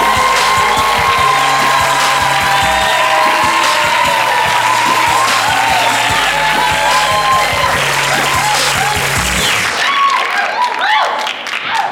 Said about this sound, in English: All right, y'all. Get ready for your next comedian coming to the stage. I need a big round of applause. Give it up, give it up, give it up, y'all, for Dondre Whitfield.